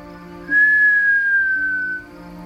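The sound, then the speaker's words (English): A single low human whistle in a hallway, held steady for about a second and a half and sliding gently downward in pitch at the end, clear over a faint background hum. “let out a low whistle, then waited with breath held.”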